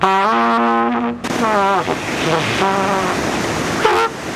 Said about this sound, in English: What is he pulling out of that gunny sack? It's his trumpet. Watch this.